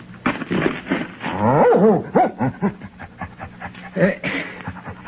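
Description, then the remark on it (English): A dog barks and whines in a rapid, excited series of yips and pants, fairly loud, with a stretch of high whimpering in the middle and no one talking over it. “But will somebody show me how I can pin this medal on the dog?”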